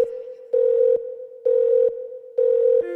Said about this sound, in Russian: Снова звонок, бля, я занят.